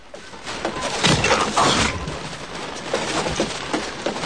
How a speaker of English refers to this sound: He reaches it and hastens up the stairs, looking nervously around him. A step breaks under his weight.